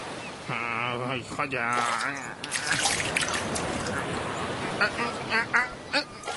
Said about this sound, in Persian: همیشه داداش کوچیکی باید جورابای داداش بزرگه رو بشوره. حتی اگه وسط دریا توی قایق با دو تا بارو شکسته گیر کرده باشی.